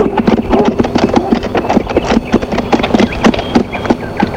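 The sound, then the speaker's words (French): Horse hooves clip-clop in a steady, brisk rhythm as people ride on horseback, many sharp knocks in quick succession, clear, with a faint background hum underneath. “Nous faisions du cheval.”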